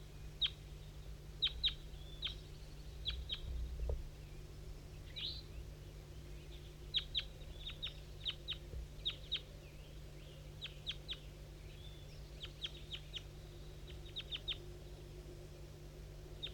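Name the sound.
bird calls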